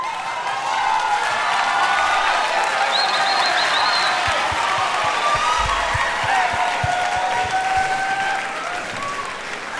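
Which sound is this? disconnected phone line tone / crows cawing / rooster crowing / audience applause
audience applause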